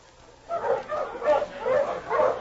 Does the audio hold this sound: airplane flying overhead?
no